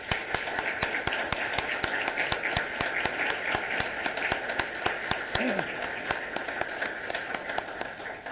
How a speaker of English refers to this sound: And so I wonder if I couldn't just ask you for a round of applause for the judges that we have.